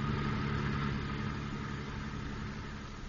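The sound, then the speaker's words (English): A steady, low car engine rumble idles continuously as the driver navigates busy traffic, with a droning hum and faint traffic-like wash behind it, no voices present. “As a member in good standing of the Safe Drivers Club, he is trying to navigate the busy traffic in safety, while at the same time listening to his daughter,”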